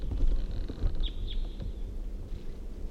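Two brief, high-pitched crossbill flight calls chip out in quick succession, faint against a steady low rumble of background noise, with no one speaking.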